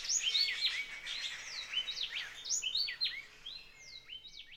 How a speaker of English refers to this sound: Two great Kiskadees have started to talk again now. Do you hear them? Those noisy calls that stand out in spite of so many other birds?